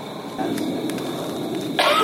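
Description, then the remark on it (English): A faint cough or two cuts briefly through steady outdoor background hiss, followed near the end by a slightly louder, rougher burst, like a throat being cleared. No one speaks. “I totally heard a cough right then.”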